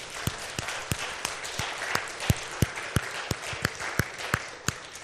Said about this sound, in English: Anybody that served in the military of any branch, National Guard, can we just give a round of applause and thanks?